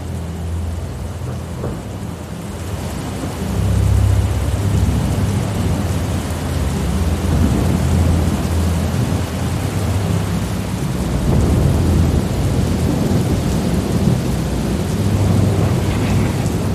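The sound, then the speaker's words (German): A thunderstorm at night with steady rain, deep thunder rolling and rumbling in repeated waves that swell loudly, the low booms growing heavier over the constant hiss of rainfall, with lightning lighting the night sky. No voices. “Die ersten Blitze erleuchten den Nachthimmel. Die Welt um dich ist plötzlich ganz hell und das laute Dröhnen kommt näher und näher.”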